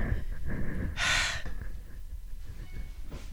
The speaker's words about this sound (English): I just hear heavy breathing.